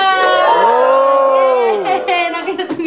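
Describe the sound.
An audience of fans lets out a loud, sustained cheer for Baginda, many voices holding a long rising-then-falling whoop for about two seconds before breaking into scattered shouts.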